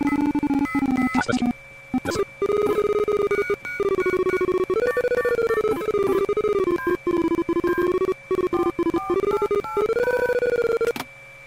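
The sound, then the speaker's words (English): A telephone rings loudly and steadily, its electronic warbling tones pulsing in a continuous pattern with clustered harmonic bands, alone throughout. “Now I clicked on the same thing. Let's hope this is the phone.”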